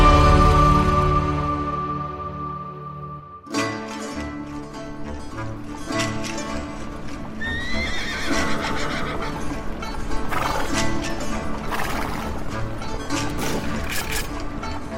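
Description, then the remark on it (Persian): Military horses whinny loudly, first a long drawn-out neigh alone and then more neighs over a busy stretch of hooves clip-clopping and thudding. The whole scene is lively, with no talking. “از اسب‌های سلطنتی قاجار و تفرجگاه شاهان تا شیهه اسب‌های نظامی و صدای تیر و تفنگ”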